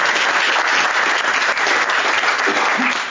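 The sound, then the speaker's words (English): Steady audience applause fills the whole stretch, a dense, even patter of many hands clapping at a loud, constant level with no talking over it, welcoming an AI researcher and Yale professor introduced before his talk. “Okay, well, I guess that'll make up for the fact that I don't expect to be applauded at the end of the talk.”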